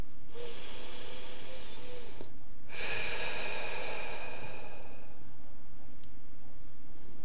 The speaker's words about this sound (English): Breathing deeply and evenly and taking our attention to listening inside.